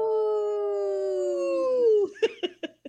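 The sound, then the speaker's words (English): A voice on the radio show Native Roots Radio Presents imitates a wolf howl: one long, steady, rich tone that slowly sinks in pitch for about two seconds, followed by four short, sharp yips in quick succession. “That was a good howl today.”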